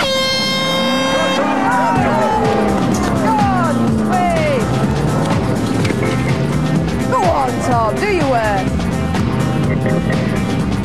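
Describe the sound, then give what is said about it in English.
A loud klaxon blast opens, then a farmer's vehicle's engine revs and surges up and down as it is driven hard and braked in a team contest to spill liquid, with shouting voices mixed in throughout. “Young one Tom has got his hands on the farmer's mighty motor.”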